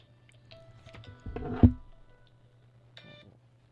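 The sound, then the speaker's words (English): A few short electronic beeps chirp at a moderate level from a phone whose sound was left on, broken up by a brief muffled handling thump in the middle, with no one speaking. “Sorry about that. I forgot to turn down my phone.”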